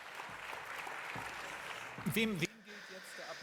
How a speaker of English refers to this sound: Who's the applause for? For those who cleaned up? Or, yeah, of course. That's for them.